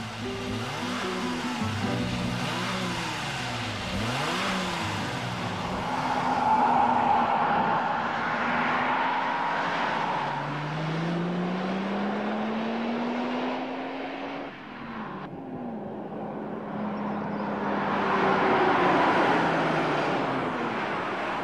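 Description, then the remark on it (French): The 3-litre turbocharged V6 engine of a 610 Turbo car, rated at 250 horsepower, revs and accelerates, its rising tone sweeping upward through gear changes, loud and sustained with a broad roaring rush and no talking. “Le coup de foudre, il est là. 3 litres turbo, 6 cylindres en V, 250 chevaux.”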